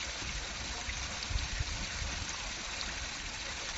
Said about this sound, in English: As the river flows on over rocks and pebbles